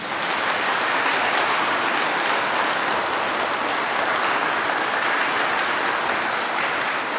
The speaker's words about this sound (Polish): Tymi słowami bardzo gorąco i serdecznie witamy i pozdrawiamy wszystkich słuchaczy Radia Maryja, widzów telewizji Trwam, a uczynimy to bardzo gorącymi oklaskami. Oklaski gorące!